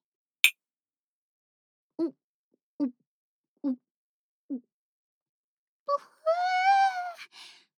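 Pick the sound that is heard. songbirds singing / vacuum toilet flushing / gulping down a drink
gulping down a drink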